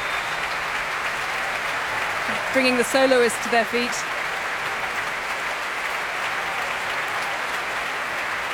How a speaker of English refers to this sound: Paavo Järvi coming back onto the stage now to this rapturous applause from the crowd here. A packed Royal Albert Hall, stamping as you can hear.